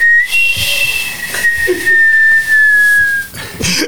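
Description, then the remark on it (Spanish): A sweet potato vendor's cart steam whistle lets out one long, shrill, steady high-pitched tone, sagging slightly in pitch as it goes, over a breathy hiss of escaping steam. “O uno de camotes.”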